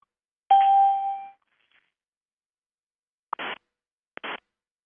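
A bright electronic chime rings out alone and fades after about a second, followed by two short buzzy bursts a moment apart, phone tones during a phone conversation that cannot be muted.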